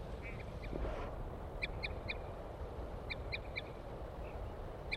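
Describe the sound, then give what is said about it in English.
A female wild bird gives short, high toot calls in quick bursts of about three, repeated twice, with a few fainter toots earlier, over a steady low background rumble. “Here comes the female, giving toots.”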